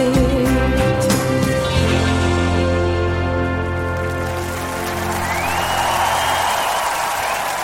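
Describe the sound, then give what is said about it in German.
Sustained musical tones fade out, and a crowd's cheering and applause swells into a dense, steady roar of clapping and shouts over the last few seconds. “Jubel!”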